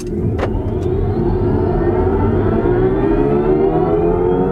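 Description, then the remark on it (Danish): A fully artificial acceleration sound made by an electric car during a quick acceleration (the car does 0-100 in 8.6 seconds): a steady, loud tonal hum that rises smoothly in pitch over several seconds, with a couple of brief clicks at the start and no talking. “Er der nogen, der mangler lyd i en elektrisk bil, så har de den i hvert fald her, men den er jo fuldstændig kunstig.”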